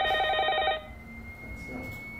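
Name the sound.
telephone ringing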